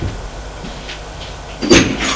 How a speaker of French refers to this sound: la porte de la chambre s'est ouverte.